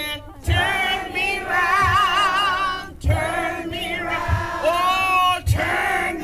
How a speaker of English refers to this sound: Back in Anchorage, the chorus of voices kicking off the march grew louder. There was a buzz in the air, like the women in the audience knew their voices were finally being heard.